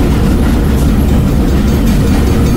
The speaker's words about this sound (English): Oh my God, trains. No, it gives me anxiety. Does it? Yeah. Trains give you anxiety.